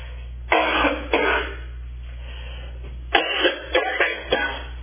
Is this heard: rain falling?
no